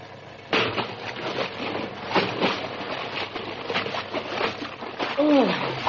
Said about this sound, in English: I slipped when I dove off the ship's rail, and I hit the water like a ton of bricks.